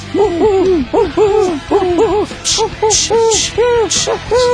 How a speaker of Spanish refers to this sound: Pero yo calculo que debían ser buhitos, búhos de las vizcacheras, esas lechuzas de las vizcacheras que usted supo tener.